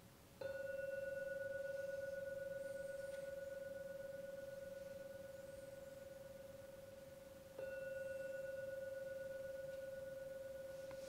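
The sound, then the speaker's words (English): A gong is struck twice at the end of a meditation session, each stroke starting sharply and ringing out as a long, steady, clear mid-pitched tone that barely fades. The second strike comes about seven seconds after the first. No one speaks. “I'm now going to ring the gong 3 times, as usual.”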